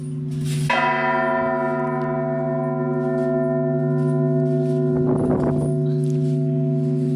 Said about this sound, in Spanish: O a muerto, para anunciar el fallecimiento de una persona. Toque de gloria si era niño, 13 campanadas si era hombre, 12 si era mujer, aunque el número depende de la costumbre del lugar. Aquí las campanadas doblan de forma pausada e intercalada.